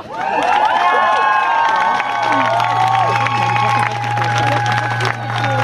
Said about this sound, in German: Genau, klatscht euch, seid stolz auf euch. Wir sind alle hier, wir zeigen Gesicht.